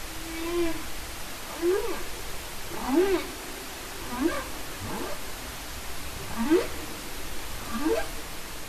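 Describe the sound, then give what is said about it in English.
Humpback whale song: a series of about six low, rising moaning calls spaced roughly a second apart, heard over a steady hiss of underwater background noise, with no talking. “The humpback whale, which can be seen during migrations along Virginia's coastline in winter, uses its song for breeding or other communication.”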